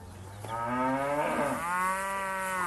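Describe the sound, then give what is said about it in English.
An Ankole cow, a long-horned indigenous cattle breed from Western Uganda's Ankole region, moos in a long, loud, drawn-out bellow lasting over two seconds, with a rich harmonic tone that dips and rises midway. There is no talking. “Across the East African community, the Ankole cow from Western Uganda's Ankole region is one of the much cherished of all indigenous cattle.”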